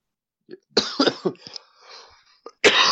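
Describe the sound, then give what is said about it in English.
A burst of several harsh coughs in quick succession, followed by a short pause, a raspy breath, and another forceful cough at the end. “I just started coughing.”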